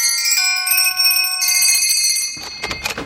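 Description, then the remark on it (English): A doorbell at Santa's workshop at the North Pole rings out with bright, sustained chime tones that overlap and ring on, followed by a burst of rapid jangling near the end, loud with no talking. “Rang the bell.”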